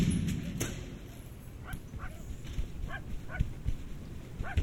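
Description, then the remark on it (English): A dog gives a series of short, high yips or barks, spaced irregularly, over a steady low rumbling background. “Shut up, you stupid dog.”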